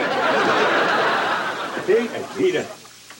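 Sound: water running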